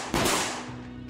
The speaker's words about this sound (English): Kim states that she hears Rob run down the stairs, open the garage door, followed immediately by two gunshots.